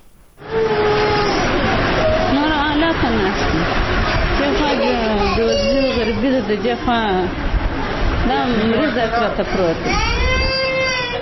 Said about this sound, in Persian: این مادر در شفاخانه میرویس کندهار در کنار بستر کودک مریض خود نشسته از فقر و بیچارگی گریه می کند.